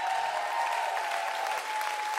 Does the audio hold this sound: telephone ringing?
no